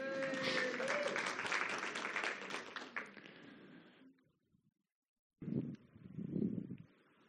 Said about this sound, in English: Round of applause for the tech team.